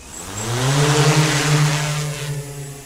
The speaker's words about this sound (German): Die 6 Rotoren aus Carbon beginnen zu kreisen.